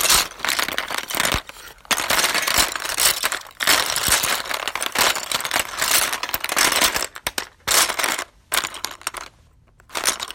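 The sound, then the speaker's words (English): A loose, clattering rattle of many small wooden pencils being shuffled and rummaged through in a box, in dense bursts with a few short pauses, no voices. “That sound you just heard was the sound of me rummaging through my pencils.”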